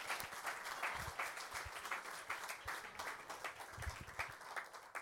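A crowd applauds steadily for about five seconds, a dense wash of many hands clapping at an even loudness with no one speaking over it.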